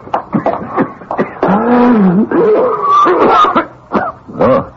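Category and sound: human body sound, harsh cough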